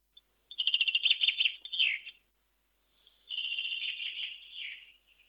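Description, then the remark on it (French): A bird sings two rapid, high-pitched trilling phrases, each a quick run of bright chirps that slurs downward at the end, separated by a short pause. No voices are heard. “Voici son chant.”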